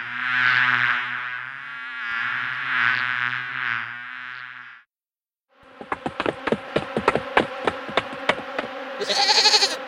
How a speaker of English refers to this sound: The bees attack.